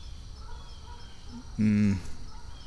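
bird calling

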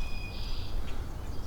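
birds calling overhead

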